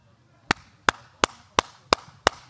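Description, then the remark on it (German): Six hollow, dull-sounding claps with cupped hands in the way Christoph Diekmann claps, evenly spaced in a steady, fairly quick rhythm, each one sharp and loud with a short ringing tail; no one speaks. “Achtung, Julius Brink wettet, Achtung, und jetzt kommt das Klatschen von Christoph Diekmann.”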